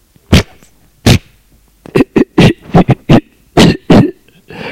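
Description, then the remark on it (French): An old man, a grandfather in great pain, coughs harshly while trying to swallow: two separate hacks followed by a rapid, irregular run of about ten loud, raspy coughs and spitting sounds, with no talking. “Il essaye d'avaler, mais crache.”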